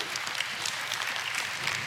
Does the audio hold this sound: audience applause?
yes